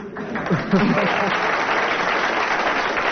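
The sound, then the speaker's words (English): A studio audience breaks into steady, sustained applause at a constant level, with a brief voice heard at the very start just before the clapping swells. “I thought you'd have got more applause from the audience, but...”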